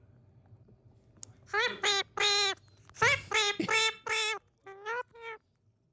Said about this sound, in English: Is it a bird? Yeah.